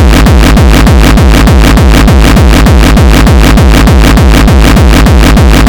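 A loud, heavily distorted electronic loop pounds out fast, steady beats, its crunchy, saturated tone filling the whole sound with harsh grit and no voices.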